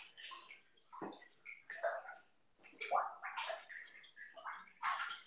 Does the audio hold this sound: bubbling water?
yes